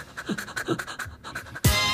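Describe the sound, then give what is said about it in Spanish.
A person imitates a dog's panting laugh with quick, rhythmic breathy huffs, moderately loud, ending in a sudden louder burst. “La perra.”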